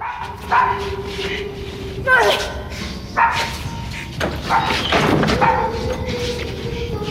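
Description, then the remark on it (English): A dog barks repeatedly and loudly, with several sharp barks spaced a second or so apart over a steady background, and muffled voices mixed in. “Now, shut that dog up!”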